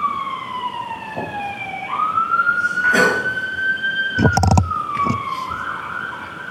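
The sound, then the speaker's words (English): An ambulance siren wails steadily as it passes outside a courtroom during a trial, its tone gliding up and down at moderate loudness, with a few brief bursts of background noise and no talking. “Wait for the ambulance and then speak up.”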